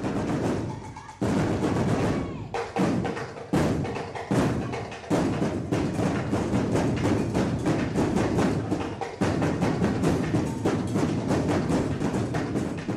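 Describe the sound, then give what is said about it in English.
The Las Vegas High Steppers' stepping and drumming routine at the Black Diamond 22nd Annual Drill Team and Drum Competition: loud, dense percussion with sharp stomps and rapid snare-like rolls in a driving rhythm, broken by a few brief pauses, with no one speaking. “Here's some sound of their routine at the Black Diamond 22nd Annual Drill Team and Drum Competition.”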